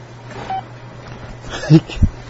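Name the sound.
telephone keypad dialing tones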